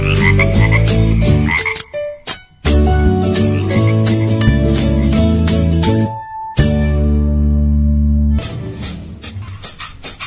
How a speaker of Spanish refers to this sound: Es un sapo panzón.